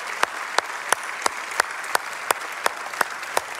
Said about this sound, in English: Dads, would you stand? And we want to give you a massive round of applause. Come on, dad, stand wherever you're at. Give them a big, big round of applause.